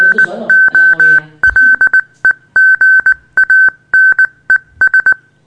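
A single steady high-pitched tone keys on and off in a string of short and long beeps, spelling out Morse code. Some brief muffled voices and noise come at the start.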